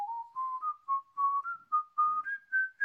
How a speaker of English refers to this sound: Don't whistle, Masha, how can you?